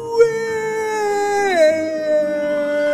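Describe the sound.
A long, sustained werewolf howl, holding a steady pitch before sliding downward midway and trailing on, loud with no talking.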